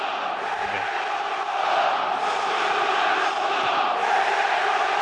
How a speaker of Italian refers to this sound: Questi sono i tifosi del Feyenoord che stanno urlando come degli esagitati.